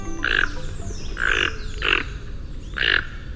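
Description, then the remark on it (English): A Toco toucan of South America gives four harsh, croaking calls at a steady pace, each a short raspy burst with a nasal, grunting quality, over a faint background hiss. “But in the case of the Toco toucan of South America”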